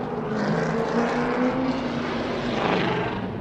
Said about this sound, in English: The race car picks up speed and pulls away as it enters the Speedway's far turn. It's a practice run for the driver of the number 22 car here at Motor Mile Speedway in Radford, Virginia, where cars post speeds of more than 100 miles an hour.